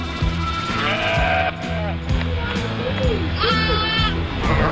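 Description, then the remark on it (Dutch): A flock of sheep and many lambs bleating repeatedly in lambing season, overlapping calls of varied pitch, some high and thin, others deeper, filling the scene continuously. “Heel veel lammetjes hoor ik.”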